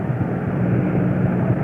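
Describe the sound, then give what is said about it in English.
A packed ballpark crowd roars at a strike as Bob Gibson pitches to Boyer in a game against New York. The roar is a steady, dense wash of noise held at a constant loud level for under two seconds, with no voices standing out from the din. “Every strike, you can hear the roar.”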